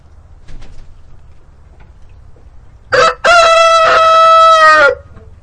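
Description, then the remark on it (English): A rooster lets out a loud crow lasting about two seconds, harmonic and strained, preceded by a short clucking burst, with faint barnyard noise around it and no talking. “Ah, you can crow.”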